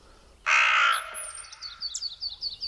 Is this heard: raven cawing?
yes